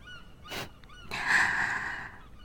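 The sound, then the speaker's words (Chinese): Many seagulls calling while circling around overhead, a short harsh squawk followed by a longer, drawn-out nasal cry, clear with no talking. “好多海鸥啊，还在绕着我们飞呢。”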